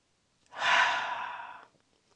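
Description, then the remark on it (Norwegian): A single long, slow exhale after breathing in through the nose and holding the breath, a soft airy rush of breath that swells quickly and then fades away over about a second, with no talking. “Kjenner du at når du puster ut, så renner det ut tanker.”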